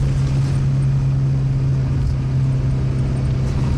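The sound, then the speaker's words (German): A car engine drones loudly and steadily, a constant low hum with road rumble underneath, no noticeable rise or fall in pitch, and no voices; the driver, going too fast with failed brakes, is downshifting to brake with the engine. “Runterschalten. Du musst mit dem Motor bremsen.”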